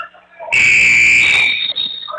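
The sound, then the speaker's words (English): A loud, harsh basketball buzzer marking the end of the third quarter blares for about a second, dominant, then gives way to a thinner lingering tone and faint background noise. “Buzzer sounds.”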